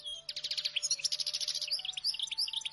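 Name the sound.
birds singing and chirping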